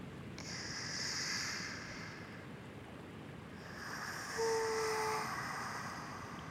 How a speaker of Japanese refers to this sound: 波音だけが響く静けさ。